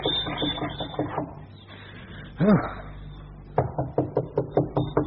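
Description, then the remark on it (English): Two bursts of steady knocking on a wooden farmhouse door, each a quick run of seven or eight firm raps, separated by a pause with a dog's brief whimper in the background. “knocked on the door of the farmhouse.”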